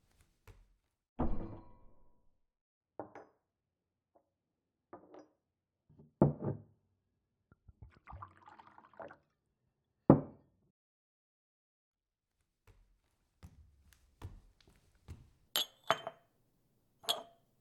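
Scattered glassy clinks and dull knocks of dishware as someone gets a glass of water, with a brief run of trickling as the water is poured in the middle. No one speaks.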